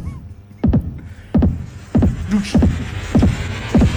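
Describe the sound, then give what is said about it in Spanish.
An amplified heartbeat pounds in a steady double-thump rhythm, six beats over four seconds, each deep, booming pulse trailing off with an echoing ring. “Joder, qué corazón más raro.”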